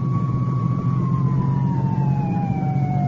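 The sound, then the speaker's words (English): An ambulance carrying a passenger pulls away from the scene of an accident on a highway, where a sedan lies overturned. Its siren holds a steady wailing tone whose pitch slowly sinks as it pulls away, over a loud, continuous low engine rumble with no one speaking. “An ambulance swings away with its passenger.”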